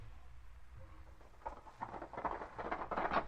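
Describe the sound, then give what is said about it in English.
A horse's hooves gallop in a quick, uneven rhythm as its rider hurries away, starting faint and growing steadily louder, with no voices over the clatter. “Hey, you! Pull up that horse! Stop, you hear?”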